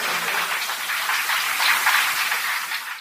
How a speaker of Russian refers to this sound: Аплодисменты журналу «Красная Бурда».